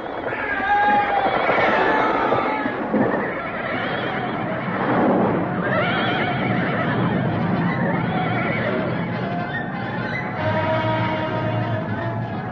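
Several horses neigh and whinny loudly and repeatedly over a dense, continuous commotion that may include clopping hooves, filling the whole stretch without pause.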